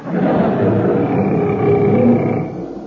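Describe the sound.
A person in the jungle, a cannibal imitating a tiger, lets out a loud, sustained roar, a rough, growling vocal lasting a few seconds before trailing off, with no other talk.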